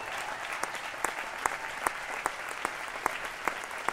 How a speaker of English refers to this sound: But out of honor and respect, this great man of God, let's get up on our feet and just give him a big hand clap.